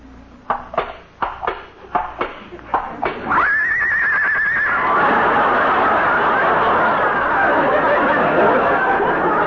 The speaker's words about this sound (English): Listen to that, Molly. She's caught cold already. Poor kid. Dearie, you can open your eyes now. Lillian is a horse. A horse?